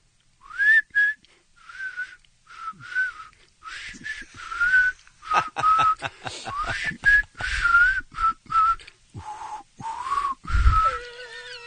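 A person whistles the melody of a hit song for a caller to guess in a name-that-tune game, a steady string of short and held notes rising and falling in a lilting melody, with a few breathy gaps between phrases and no talking.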